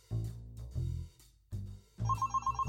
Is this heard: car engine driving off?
no